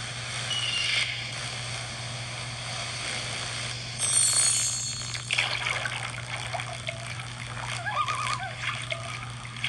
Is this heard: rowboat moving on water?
yes